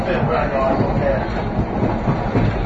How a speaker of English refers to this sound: We're about to hit the transition onto the other rails. Let's see if we can catch it here.